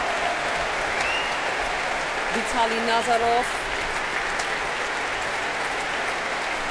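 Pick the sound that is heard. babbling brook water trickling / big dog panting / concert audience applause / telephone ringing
concert audience applause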